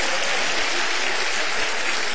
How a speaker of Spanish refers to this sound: Sí, Señor, dele fuerte ese aplauso.